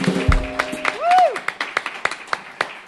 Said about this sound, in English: Now, they've got one more song for y'all here this afternoon, but I think we need one more round of applause